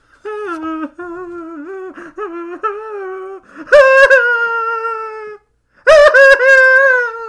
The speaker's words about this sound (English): And on this particular day, on this particular space day, a girl wept in sorrow.